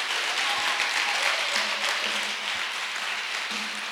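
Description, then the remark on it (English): A church audience applauds the pastor and his wife steadily, many hands clapping together in a dense, continuous wash of sound that stays loud and even throughout, with a faint low hum running underneath. “Let's clap for the pastor and the wife.”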